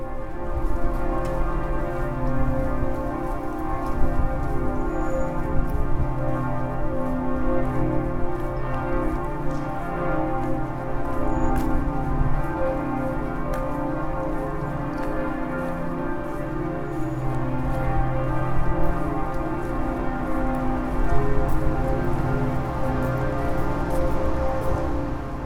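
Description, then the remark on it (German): Loud outdoor ambience at the foot of the Michel church in Hamburg, with church bells ringing steadily and their sustained, overlapping tones layered over a dense, constant wash of background noise. No one speaks. “So klingt es unten vor Michel.”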